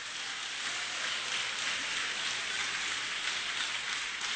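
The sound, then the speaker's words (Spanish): A crowd claps steadily for the Lord, a dense, even wash of many hands applauding at a constant level for several seconds, with no voices rising above it. “Aplauda al Señor.”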